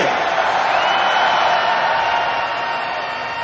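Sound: concert crowd cheering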